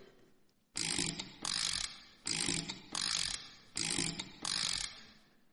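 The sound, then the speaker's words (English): A crank handle is turned on a homemade invention machine with an egg in its funnel, making six loud, harsh ratcheting bursts grouped in three pairs with short pauses between, and no voices. “We now turn the handle.”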